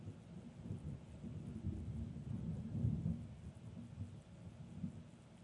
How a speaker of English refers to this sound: I know you heard that one. Woo! There was even a snap there from the lightning.